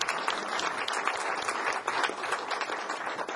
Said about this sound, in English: I also want to, let's have a little light applause now